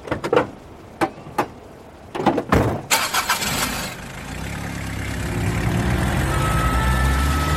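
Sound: ambulance engine starting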